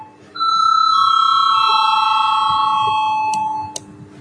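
A parliament chamber's vote bell, rung to call a vote on a draft decision, rings as one steady, bright electronic tone lasting about three seconds, then cuts off with a couple of sharp clicks over a low background murmur.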